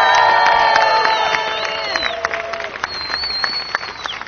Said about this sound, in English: What a couple of weeks when we celebrate a double championship for the Brisbane Roar Football Club. Ladies and gentlemen, give the girls and the boys another round of applause.